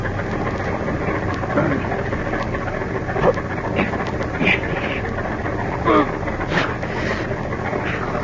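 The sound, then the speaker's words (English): A car engine idles steadily in a closed garage, a constant low rumble and hum, with faint muffled vocal sounds and small bumps rising over it now and then. “You just lock him in this closed garage to breathe the gas. Tonight, when it's dark, we get rid of their bodies and their car. Start the motor.”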